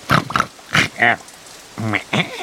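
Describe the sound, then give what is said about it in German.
Pigs grunt and snort in a quick, irregular run of about six short bursts, some rough and some more nasal, with brief pauses between them and no talking. “Auch die Ziege und die Schweine machten einen Schritt auf die Haustür zu.”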